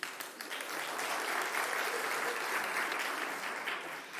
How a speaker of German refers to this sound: Ja, ist ein Applaus wert, das finde ich auch.